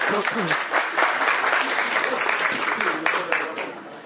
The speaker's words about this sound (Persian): خب خیلی ممنون، لطف کردید، مرسی، تشویقش میکنید.